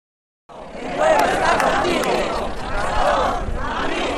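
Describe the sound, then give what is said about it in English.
A crowd of demonstrators at a rally and march in support of Spanish High Court Judge Baltasar Garzón shouting together, chanting "Garzón, amigo, el pueblo está contigo", a loud, sustained mass of overlapping voices with rhythmic chant-like swells, starting abruptly after a brief silence and continuing steadily. “Demonstrators at a rally and march several weeks ago in support of embattled Spanish High Court Judge Baltasar Garzón, shouting, "Garzón, amigo, el pueblo está contigo."”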